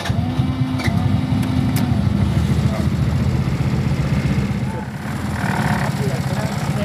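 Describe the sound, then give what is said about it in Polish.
A car engine is started and runs with a steady, loud rumble throughout, idling without pause while muffled voices are faintly heard underneath. “No to siadaj za kierownicę. Odpalisz?”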